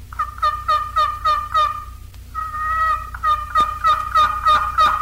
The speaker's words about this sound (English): Next are the higher-pitched yelps of the old hen made on the box collar. These can hardly be beat either spring or fall.